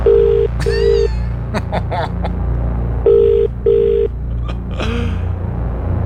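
A phone ringback tone purrs in two double-rings, a pair of short buzzing bursts, a pause, then another pair, over a low rumble with brief scattered sounds in between, as Magic 931 calls a prize winner.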